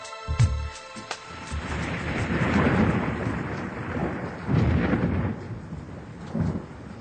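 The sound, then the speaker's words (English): A thunderstorm rumbles with deep, rolling thunder over a steady wash of heavy rain, with a sharp crack near the start and swelling booms that rise and fade throughout, no voices present. “The storm crashed upon me.”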